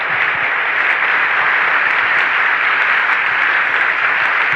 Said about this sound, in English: Amid thundering applause, the crowd rises to its feet as one person. You are there with Dr. Wayne Dyer.